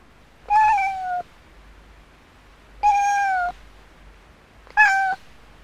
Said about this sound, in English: It's a cat.